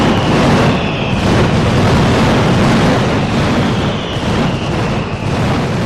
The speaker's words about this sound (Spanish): Y así ha sonado la segunda mascletá de la sesión de la 35ª edición del concurso de mascletá. Ese es de Pirotecnia Fernández, de Redován.